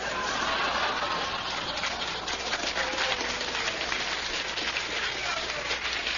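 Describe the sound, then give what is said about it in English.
An audience at the Limelight in Greenwich Village applauds in a steady, dense wash of clapping that holds at an even level for about six seconds, crisp and crackly with no single claps standing out. “Listen to the phonies applauding here.”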